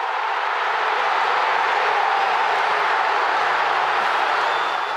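stadium crowd cheering

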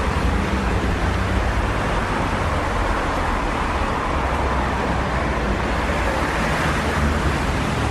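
road traffic noise

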